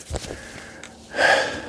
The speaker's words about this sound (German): Ich bin wieder am Keuchen. So bergab geht das dann irgendwie doch gar nicht mal, wie ich gedacht habe. Ich bin auch extrem unfit, immer noch.